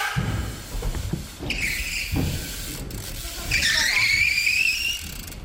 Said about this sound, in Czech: To je co? To jsou boty, ten písek? Jo, takhle si brzdím a šetřím si špalky.